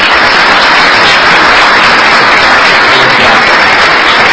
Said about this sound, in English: So thank you for your support to our state superintendent and to this board for your funding of education in Maryland. That deserves a round of applause, I think.